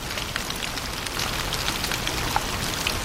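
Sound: heavy rain pouring down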